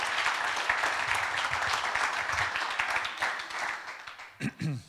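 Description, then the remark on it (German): An audience applauds in a dense, steady wash of many hands clapping, fading slightly toward the end as a voice begins speaking over the last moments. “Auch das, denke ich, ist ein super Applaus wert.”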